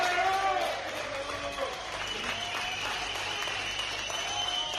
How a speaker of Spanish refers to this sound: Así que para ellos también, cómo no, este aplauso.